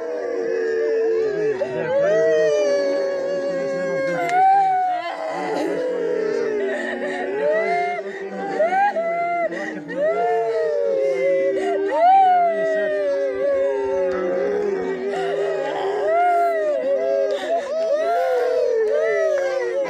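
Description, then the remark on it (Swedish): A crowd of villagers in a village in Papua New Guinea crying and wailing together, recorded on a low-quality phone video: many overlapping voices rising and falling in long, sobbing, howl-like cries that continue loudly and without pause. “Men som visar det någon få sekund av den gråten som var i den landsbyen akkurat när vi gick in, hvis vi får fram den videon.”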